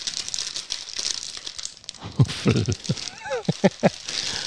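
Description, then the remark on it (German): Crackling rustle of a silver foil snack bag being torn open along its perforation, with a run of sharp crinkly bursts in the second half and a brief voice murmuring beneath. “Ich glaube, das ist eine Perforation zum Öffnen, kann das sein?”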